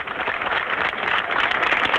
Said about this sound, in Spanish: Era un aplauso extendido. Esto ocurrió hace exactamente, ya aproximadamente, haciendo el cálculo, 16 años.